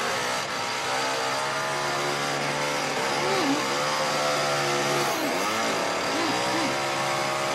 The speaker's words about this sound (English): Well, the only other scene I'll mention is the chainsaw scene. Oh, I love that.